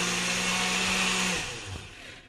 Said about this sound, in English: Alrighty. To the blender. Got to blend down those peaches.